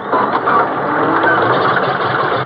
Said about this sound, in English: Hey, let me check everything. Let's see now. Well, what's wrong? Why doesn't it catch? They've done something with the engine. Oh, but what? That's what I'm trying to find out. Why doesn't this damn thing turn over?